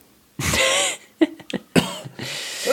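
coughing

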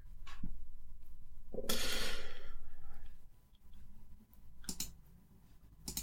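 computer mouse clicking

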